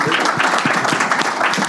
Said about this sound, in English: So if everyone please give me a round of applause for Dana.